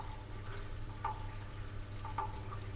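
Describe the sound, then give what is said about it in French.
Water drips from trees, a handful of scattered, hollow plinks falling at irregular moments against a quiet, steady outdoor background, with no voices. “les vagues qui se fracassent, les arbres qui s'égouttent”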